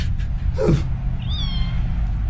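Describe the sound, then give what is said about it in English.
A female shelter kitten from a pet store lets out a single short, falling meow, then a thin high-pitched mew follows a moment later, over a steady low hum in the background. “There were shelter kittens, yes. So I picked one up. No way! You got me a cat!”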